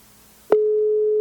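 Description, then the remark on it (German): A telephone ringing tone heard while placing a call: after a brief click, a steady, fairly loud single-pitched beep sounds continuously over faint background hiss, with no voices. “Ich hoffe, ihr hört das Tuten auch.”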